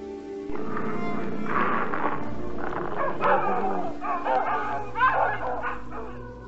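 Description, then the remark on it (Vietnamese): A dog barks and yips in a series of sharp, excited, loud bursts with some whining in between, with a steady low hum underneath. “Chẳng những không cho họ vay, con còn nói thấy nhiều câu nhục mạ họ, thậm chí xua chó ra dọa họ.”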